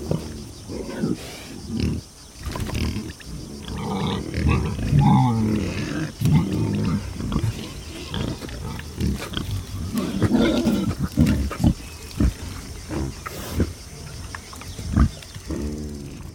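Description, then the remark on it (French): A group of wild boars, a large male leading a female and her three young, grunts and snorts in low, rough bursts, the calls overlapping irregularly and fairly loud throughout, with some harsher roar-like growls mixed in. “Il s'agit d'un groupe de sangliers.”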